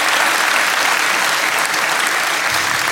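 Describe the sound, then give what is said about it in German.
Steady, dense applause from an audience for Stefan Tietze, a loud sustained wash of clapping hands with no pauses or speech over it. “Applaus für Stefan Tietze, meine Damen und Herren.”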